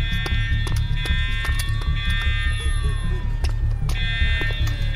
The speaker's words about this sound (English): That fucking alarm.